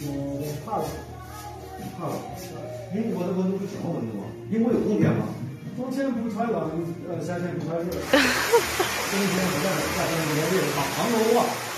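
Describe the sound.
People chat, then partway through a bright, airy spraying hiss starts and carries on under their voices to the end, like a spray bottle misting hair in a barber's shop.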